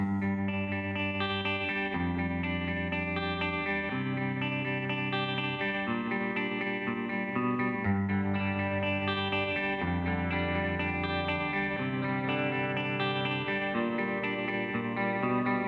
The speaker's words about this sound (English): Oh man, this is one of my favorite songs. Two of my favorite songs of this year. You guys are getting a real treat.